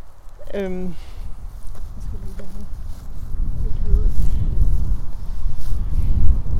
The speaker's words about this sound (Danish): Og jeg bare lige stikker den sådan helt op i hovedet for dig, for jeg har lige prøvet at skrue ned for selve mikrofonen, for at undgå, at der går så meget vind i. Man kan sige, nu oplever du også vinden.